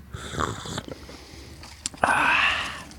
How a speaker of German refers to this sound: So, jetzt erstmal hier den Kaffee schlürfen.